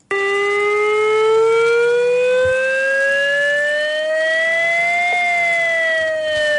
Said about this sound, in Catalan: Una prova que s'ha iniciat a les 10 del matí a Flix amb aquest so que emitien les sirenes situades al turó del Castell Vell i la punta del Canó.